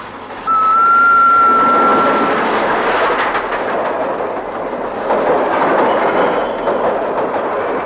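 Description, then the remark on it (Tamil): A train rumbles past on the rails at a closed railway crossing gate, loud and steady for several seconds, with a brief high whistle-like tone near the start and a rhythmic clatter of wheels. “பேசாம வண்டிய ஓரமா நிறுத்திவிட்டு ரயில் வருது, வேடிக்கை பாத்துட்டு போ.”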